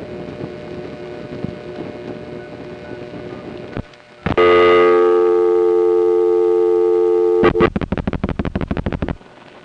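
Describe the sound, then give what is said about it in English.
A telephone dial tone on a Crossbar 5 exchange after dialing a digit of 11 pulses, reaching the permanent signal holding trunk: a low line hum and a click, then a loud, steady tone for a few seconds that breaks into rapid, evenly pulsed bursts before cutting off. “When you dialed a digit consisting of 11 pulses in a Crossbar 5, you'd go to the permanent signal holding trunk where dial tones would time out to.”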